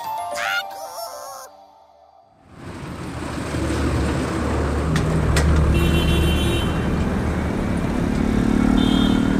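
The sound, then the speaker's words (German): A brief musical sting fades out, then loud, continuous city traffic rushes in: cars, trams and bicycles passing in a steady, dense roar that swells slightly toward the end. “Ganz schöner Verkehr heute im Studio. Hier ist ja was los. Autos, Bahnen, Fahrräder.”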